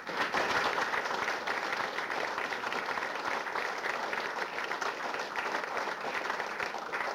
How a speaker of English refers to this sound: We had a man who prepared to lead the service. He was prepared to stand in the pulpit and lead the service, give us his thoughts and lead us in worship with his sermon. A big round of applause.